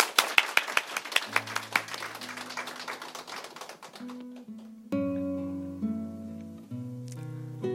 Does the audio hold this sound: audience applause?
yes